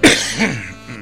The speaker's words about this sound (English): One more cough before the break. There you go.